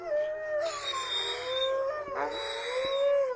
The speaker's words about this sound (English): As the tour winds down, the volunteers start to howl to make the wolf dogs sing. All the dogs join in, but there's one, Bandit, that can't quite get a howl going.